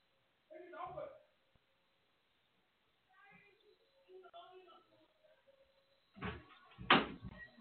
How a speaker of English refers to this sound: All right, sorry about that. Kids down there banging on the door, and the door's wide open.